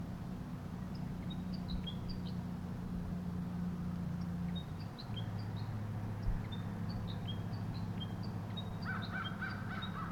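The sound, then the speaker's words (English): Short, sharp calls of a wild male bird repeat from overhead at irregular intervals, thickening into a brief flurry near the end, all over a steady low engine-like rumble. “The wild bird above me continues to call or sing.”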